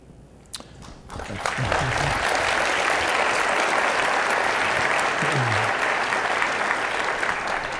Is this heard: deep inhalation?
no